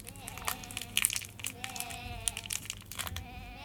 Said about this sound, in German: schau, dort unten flackert ein kleines Feuer. Die Hirten haben sich drum herum gesetzt.